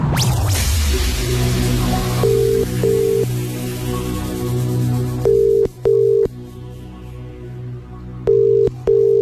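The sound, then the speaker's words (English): A telephone ringback tone from an outgoing call sounds in three double-pulse rings at steady intervals, clear and fairly loud over a low humming background bed, with no voices; the call is forwarded to voicemail. “we've been forwarded to voicemail.”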